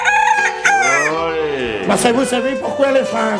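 A rooster crows loudly, a long rising-and-falling cock-a-doodle-doo, followed by a few shorter, wavering calls that trail off.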